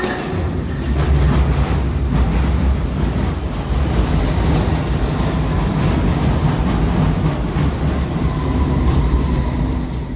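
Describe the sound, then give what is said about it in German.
A loud, steady rumble of a London Underground train at Victoria Station, with dense low roar, faint rhythmic rattling and metallic squeal in the upper register, continuous for the whole stretch with no talking. “Es war auch ein Zug, aber nicht irgendeiner. Es war die Londoner Underground an der Victoria Station.”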